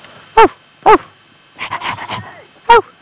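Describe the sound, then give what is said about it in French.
A person yaps like a small stray dog: two sharp barks, then a quick burst of clipped yips, and one final bark, loud over a faint steady hum. “Attends, je suis un petit chien errant, je vais chercher une balle.”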